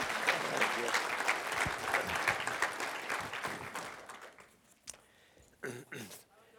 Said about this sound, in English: Well, he's already up here, but let's clap for him again. Can we do that? All right.